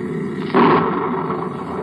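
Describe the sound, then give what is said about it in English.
A loud thunderclap from a storm bursts in suddenly over a steady background hiss, then rolls on as a heavy, rumbling roar that slowly eases but lingers to the end, with no voices. “Looks like we've got us one Lulu of a storm”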